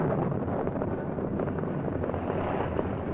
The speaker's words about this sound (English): The sky was darkening with the threat of impending rain as Scout and Silver ascended the sloping side of the plateau. As they reached the top, a clap of thunder roared across the sky.